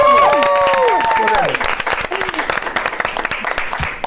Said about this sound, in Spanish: Una pausita, estamos con todo el elenco de Intensamente 2 aquí en Grupo Fórmula. Un aplauso, chicos y chicas.